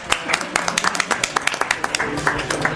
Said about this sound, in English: All right, big clap for her. Woo!